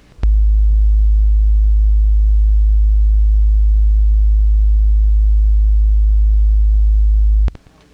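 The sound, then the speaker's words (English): A loud, steady low-pitched electronic tone holds unchanged for about seven seconds, switching on and off abruptly with small clicks, with no voices: beep 4 on a JAWS for Windows tutorial tape, marking the section with contact information for Henter Joyce. “Beep 4, contact information for Henter Joyce.”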